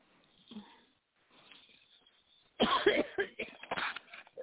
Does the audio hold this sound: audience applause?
no